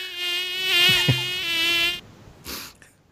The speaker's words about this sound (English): There's a giant mosquito in my office somewhere.